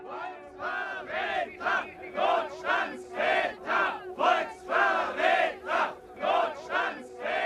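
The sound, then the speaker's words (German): A crowd of protesters, young people and students demonstrating in Germany against the emergency laws and Chancellor Kurt Georg Kiesinger, shouts in unison, chanting loud rhythmic bursts roughly twice per second with no pause, voices blending into a rough, forceful roar. “Je mehr ich Geschrei dieser Art höre, desto deutlicher wird mir, wie notwendig es ist, in unserem Lande für Ordnung zu sorgen.”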